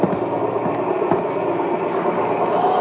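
A helicopter drones steadily overhead, a loud, continuous mechanical roar with a low rumbling churn and occasional faint clicks, with no voices.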